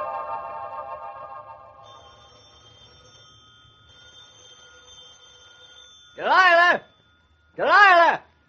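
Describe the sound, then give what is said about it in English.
A telephone rings twice, loud, each warbling ring lasting about half a second with a short gap between them, following a soft sustained musical tone that fades out. “Phone's ringing again. I ain't going to answer it.”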